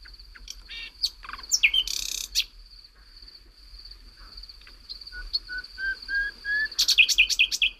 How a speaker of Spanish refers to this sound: Son decenas de motivos distintos con esta voz limpia. Pero a mí lo que me gusta del ruiseñor no es lo que dice, sino cómo se calla y deja que se escuche la noche a través de esas pausas.